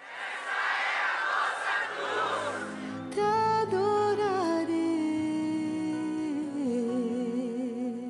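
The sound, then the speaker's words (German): A large crowd at a papal mass celebrated by Pope Francis roars and cheers in a broad wash of noise for a few seconds, then breaks into loud rhythmic chanting, many voices rising and falling together on a sung melody. “Immer wieder wurde die Feier von Beifallsprechchören und Schreien unterbrochen.”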